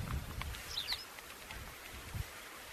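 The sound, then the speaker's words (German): A tawny pipit gives two quick, thin, high calls in close succession, faint over a low, breezy outdoor rumble with no voices, in the steppe near a village during a bird survey. “А, это конёк.”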